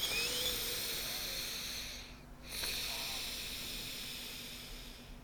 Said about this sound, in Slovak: Odporúčam najskôr upokojiť sa hlbokým nádychom, výdychom. Asi takto.